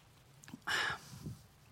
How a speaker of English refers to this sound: I want that to resonate just a little bit, because I'm kind of getting parched, so I'm going to drink this water.